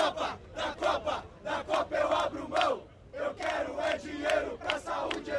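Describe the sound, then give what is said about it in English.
A crowd of peaceful protesters against FIFA and the World Cup in Brazil chants in unison in the street, ringed by riot police, rhythmic shouted bursts rising and falling in steady waves, loud and continuous with a brief dip midway before the chanting surges again. “Hundreds of officers wearing full riot gear ringed the area as the peaceful demonstrations got louder.”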